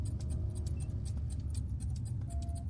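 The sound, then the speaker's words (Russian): Steady, rapid ticking of a chronometer clicks along over a constant low, muffled hum of a ship's systems in a command centre, with a faint electronic tone drifting in and out. No one speaks. “В командном центре повисла тяжелая тишина, нарушаемая лишь тиканьем хронометра и приглушенным гулом систем корабля.”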